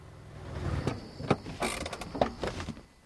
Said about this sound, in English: Mike's Porsche parks up outside Cheryl's house.